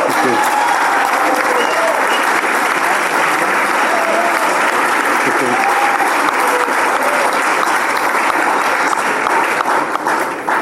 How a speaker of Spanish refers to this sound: Esto lo hicieron ustedes, o sea que se están aplaudiendo ustedes, a mí no.